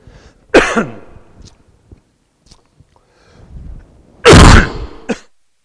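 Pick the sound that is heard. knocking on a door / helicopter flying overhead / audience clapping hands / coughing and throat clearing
coughing and throat clearing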